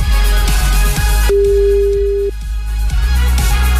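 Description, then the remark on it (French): A telephone line ringing tone during a call-in salary-doubling game on the radio station Énergie: one steady, pure electronic tone lasting about a second, sounding over continuous loud background music with no voices. “Le téléphone maintenant va sonner.”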